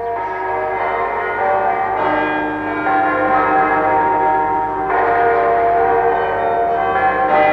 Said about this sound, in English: Next morning, all the bells of the city announced the sanctity of the day, Sunday.